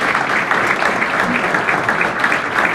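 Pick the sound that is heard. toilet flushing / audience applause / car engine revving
audience applause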